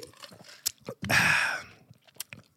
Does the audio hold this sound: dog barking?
no